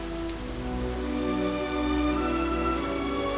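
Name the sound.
rain falling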